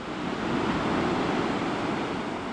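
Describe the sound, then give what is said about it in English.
Large ocean waves, some around 15 to 20 feet high, crash and roar continuously against a beach in Pacifica, a steady, dense rush of surf filling the scene with no voices present. “Bueno likes to come here to watch the waves.”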